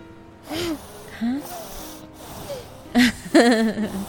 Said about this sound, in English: Can you hear him snoring? Yeah.